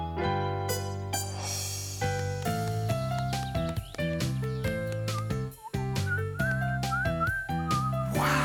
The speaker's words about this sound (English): What a great whistler. Whoa, that was Mr. Bleakman. Do you hear that, Clifford? Mr. Bleakman must be coming.